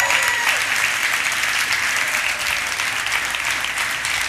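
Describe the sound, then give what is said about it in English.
A crowd at the Rock claps steadily for people who have been attending for 20 plus years, a dense, even wash of applause holding at a fairly loud level for several seconds without any voices standing out. “They've been coming to the Rock for 20 plus years right here. Give them a round of applause.”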